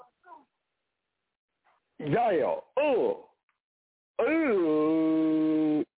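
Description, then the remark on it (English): A dog lets out two quick, loud barks with a short gap between them, then one long, drawn-out howl-like bark that holds steady before cutting off. “Calm your damn dog down now.”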